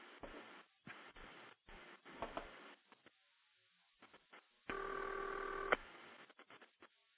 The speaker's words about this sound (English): Now what I've done is I've put a series of authentic old ringback tones on there to try to make it sound as much like an old old phone system as possible. And I think it adds to the realism.